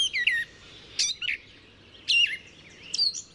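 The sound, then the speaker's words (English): A gray catbird sings a string of varied, jumbled phrases: quick squeaky chirps and slurred whistles, mostly high-pitched, coming in four short bursts separated by brief pauses, with no other sounds. “Males sing the loudest, but females sometimes respond with a quieter song of their own.”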